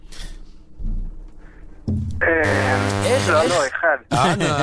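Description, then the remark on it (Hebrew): A harsh, steady wrong-answer buzzer in a quiz blares loudly for over a second, overlapping with voices talking excitedly. “זה היה לפני צליל השלילה.”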